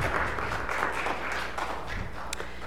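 A church audience claps for newlyweds, members of the audience who married the day before, a dense, steady patter of many hands sustained for a few seconds at moderate volume, with no voices standing out.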